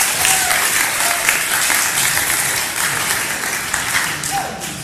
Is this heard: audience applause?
yes